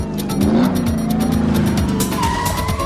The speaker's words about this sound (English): The VW comes to a stop behind stalled traffic.